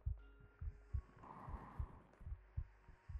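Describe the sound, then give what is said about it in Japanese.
A muffled heartbeat thumps steadily in low, soft double beats, repeating at a calm, even pace over a faint background hum, with no voices. “私の体温を、鼓動を感じてるから、ぐっすり眠れる。”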